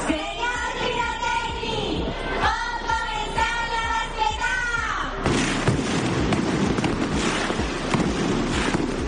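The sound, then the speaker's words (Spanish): A mascletà firecracker barrage by the pyrotechnics firm Ferrandiz, in the Altozano neighbourhood on Conde Lumiares, thunders in rapid, dense bursts, with whistling rockets and a crowd roaring in the first half before a continuous crackling wall of explosions takes over. “Así sonó ayer una de las mascletas más importantes del fin de semana, de pirotecnia, Ferrandiz.”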